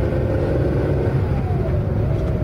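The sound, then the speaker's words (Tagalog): A car engine rumbles steadily, its low drone filling the whole moment as it seems to pick up speed, with no voices over it. “Drive like your mom's riding shotgun.”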